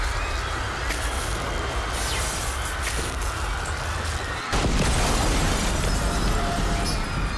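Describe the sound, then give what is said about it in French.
A single loud, booming bang inside a sinking ship plunged into darkness cuts through a constant, heavy rumble of noise, and the rumbling grows louder after the impact. No one speaks. “Puis, il y a eu un genre de gros bang à l'intérieur du navire.”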